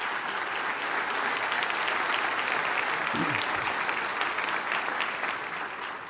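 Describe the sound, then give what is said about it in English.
Sustained audience applause for the original MRT team, a dense, even wash of many hands clapping that stays steady and loud for the whole stretch, with a brief faint voice surfacing partway through. “Let's give them a round of applause and thank them very much.”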